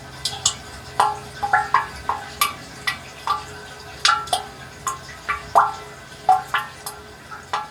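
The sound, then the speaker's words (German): Water drips steadily and unevenly inside a spring water catchment with plastic pipes, each drop a clear, hollow plink with a short ringing echo, about two or three drops a second, with no voices. “Und da konnte man hören, wie die Wasserfassung, wie es klingt in der Wasserfassung und konnte das auch noch ein bisschen verstellen.”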